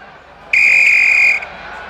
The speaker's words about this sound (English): The referee blew the whistle to call the players back onto the field.